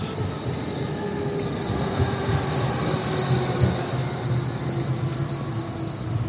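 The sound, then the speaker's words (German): A tram rumbles along its rails on Johannesstraße with a steady roar and a thin, high metallic wheel squeal running through it the whole time. No one speaks. “Und wenn wir jetzt auf die Straßenbahn warten und nicht da, dann gehen wir mal zum Haus der Vereine.”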